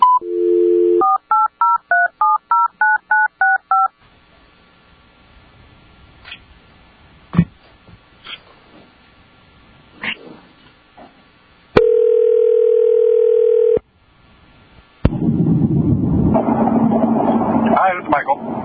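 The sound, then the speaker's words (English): A brief dial tone gives way to a quick run of about ten touch-tone dialing beeps, followed by faint clicks, a steady two-second tone, then a burst of loud line static, as legal counsel is called in for a board hearing. “I believe we're getting counsel on the phone.”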